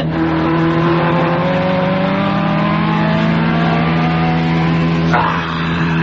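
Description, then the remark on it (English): A racing car engine drones loudly and continuously as the car slows down during a race, its layered harmonic whine holding fairly steady before an abrupt change in tone near the end. The car needs an overhaul. No voices are heard. “Well, you hear what's happened to my car?”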